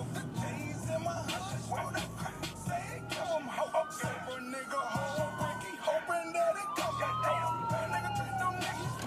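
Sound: emergency vehicle siren passing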